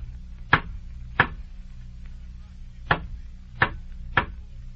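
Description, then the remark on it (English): Five sharp metallic knocks from a door knocker on the crested door of Canterville Chase, a pair followed after a pause by three more, each a loud crisp strike over a low, steady hum with no voices. “And the door knocker, Virginia.”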